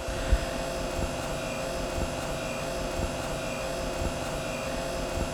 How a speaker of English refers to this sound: with the eerie hum of the industrial refrigerators behind her.